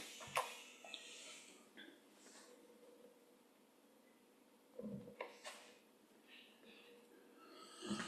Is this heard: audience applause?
no